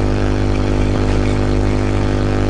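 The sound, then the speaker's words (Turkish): Steady outdoor noise of cars and buses passing, a deep, continuous engine rumble with a broad wash of road and wind noise at a constant, fairly loud level, no voices. “Araba geçiyor, otobüs geçiyor, bir şeyler, rüzgar var işte.”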